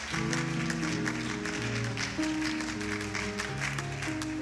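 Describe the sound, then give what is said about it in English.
A church audience claps steadily for several seconds after a prayer, a dense wash of many hands over sustained keyboard or organ chords, fairly loud and even throughout, with no one speaking. “Clap those hands.”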